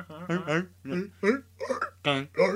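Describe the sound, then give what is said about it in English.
A person imitates a goose with a rhythmic run of about seven short, nasal, honking bursts, moderately loud, over a faint steady low hum. “Or is it a goose? That's a goose.”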